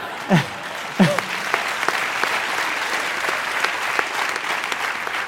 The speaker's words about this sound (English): I wanted to show you the kids and the teenagers who line up on the fence every day. And they cheer every launch and every landing.